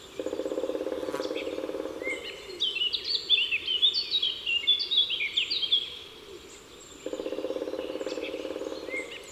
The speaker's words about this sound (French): Au printemps, en forêt, on entendra peut-être tambouriner le pic noir. C'est le plus grand des pics, de la taille d'une corneille, et son tambourinage est assez lent et puissant. C'est du lourd.